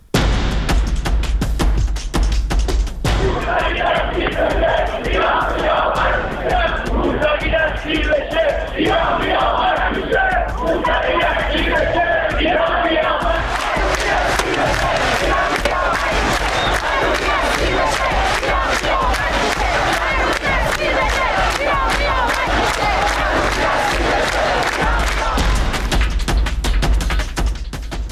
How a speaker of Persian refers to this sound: پنج سال میگذره از روزهایی که این شعارها در کوچه و خیابان فریاد زده میشد.